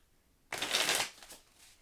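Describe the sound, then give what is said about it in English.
A deck of cards being shuffled: a sudden dense burst of rapid riffling that lasts about half a second, followed by a few softer flutters as the cards settle, with no talking. “I moved my mic away so I can shuffle.”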